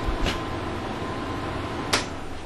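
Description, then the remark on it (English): An air conditioner hums steadily in the background, with two short sharp clicks, one near the start and one near the end; the hum carries on at the same level throughout. No voices. “The air conditioner is on, but I think I will turn it off.”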